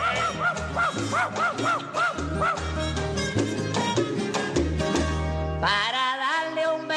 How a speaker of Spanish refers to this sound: cuando en casa de tu novia esa perra me mordió. ¡Perra! ¡Sale, perra!